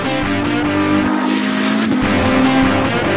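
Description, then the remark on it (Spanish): A car engine revs hard and loud, its pitch rising and falling, while tires squeal sharply over the roar, continuous with no talking. “Así es, hablamos del automóvil”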